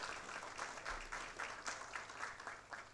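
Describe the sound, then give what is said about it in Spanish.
Steady applause from an audience for honoree Pedro García at a ceremony of the Honorable Cámara de Diputados, many hands clapping in a dense, even patter that holds at a constant moderate level throughout, with no voices standing out. “De esta forma aplaudimos al homenajeado Pedro García.”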